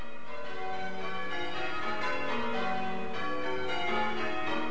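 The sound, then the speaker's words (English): Church bells peal continuously from a tower, overlapping strikes forming a dense, ringing wash of tones that sustains throughout without any voices. “Bell ringers will take any opportunity of a special occasion to do some extra bell ringing.”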